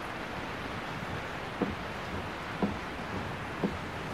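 Steady hiss of rain drumming on a car being driven on a dark night, like white noise, with three soft windshield wiper thumps arriving about once a second. No voices.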